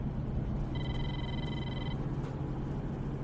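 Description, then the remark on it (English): A telephone rings once, a steady electronic trill lasting about a second, heard over a constant low rumble of background noise with no voices. “If you want to get the guy that screwed you, then you should answer that.”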